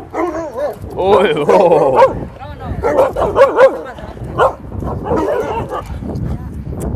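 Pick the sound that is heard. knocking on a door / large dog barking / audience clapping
large dog barking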